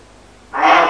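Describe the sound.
A voice imitates a motorcycle engine with a raspy, buzzing rumble that starts abruptly halfway through and holds steady and fairly loud to the end, after a quiet opening.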